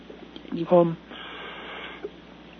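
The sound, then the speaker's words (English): A single short cough bursts out in the middle, loud and rough, followed by quieter breathy noise and a faint throat sound before it settles. “I'm sorry for the cough.”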